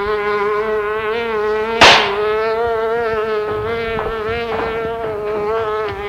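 A fly buzzes continuously, its drone wavering in pitch as it circles, interrupted once early on by a sharp swatting crack.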